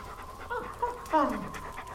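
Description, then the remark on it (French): A female dog pants in quick, rhythmic breaths, with a short whining or vocal note partway through and a voice faintly present. “Viens là, Junon. C'est ça. Là. Tu me reconnais, hein ? La brave chienne.”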